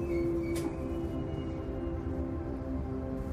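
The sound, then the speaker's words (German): A train rumbles low and steady as it comes to a stop at a platform, with humming mechanical tones and a brief hiss of air or brakes early on; no one speaks. “Ruhig kommt er genau vor dir zum Stehen.”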